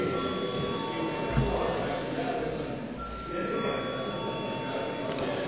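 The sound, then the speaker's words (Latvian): A steady electric bell rings continuously for several seconds in a parliament chamber to call a vote, a sustained high metallic tone held over a low murmur of voices and shuffling. “Paldies, lūdzu zvanu.”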